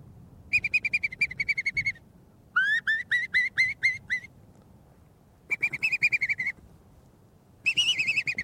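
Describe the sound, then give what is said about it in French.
Bird song facing the sea, in four bursts of rapid, repeated whistled notes, one series sweeping upward, with pauses between, over a soft low rumble like surf. No one speaks. “La conclusion, ça se finit toujours tout seul par un chant d'oiseau face à la mer et face à ces couleurs-là qui ont encore changé.”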